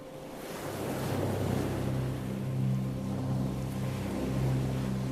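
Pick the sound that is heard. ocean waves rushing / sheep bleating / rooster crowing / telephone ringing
ocean waves rushing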